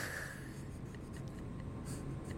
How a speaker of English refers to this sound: I like this pencil. Sounds like a great pencil.